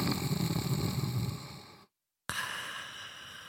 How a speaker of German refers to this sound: Doch statt einer Antwort bekommt er nur ein leises Schnarchen zu hören.